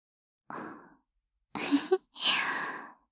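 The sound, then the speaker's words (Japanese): Three soft, breathy exhalations of someone almost asleep, each lasting about half a second, with pauses between them. The sleepy sighs are gentle and airy, and no one speaks. “ほとんど寝ている時の吐息ですよ。”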